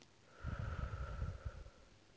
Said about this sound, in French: Prenez une profonde inspiration en gonflant le ventre et la poitrine. Soufflez en les laissant redescendre.